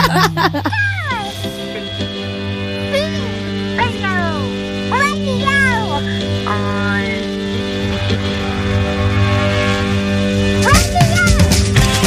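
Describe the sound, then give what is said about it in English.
A cat meows several times in a row, short rising-and-falling cries, with a final one near the end, over a steady electrical hum. “Hello, meow. Meow. Meow. Yeah, it's hello, your meow for what?”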